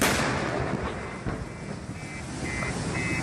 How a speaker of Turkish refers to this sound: Çin'de sabah erken saatlerde yaşandı korkunç olay. İnsanlar işlerine gitme telaşındaydı. Araçlar trafikte ilerlerken yol kenarındaki tavuk restoranı büyük gürültüyle patladı.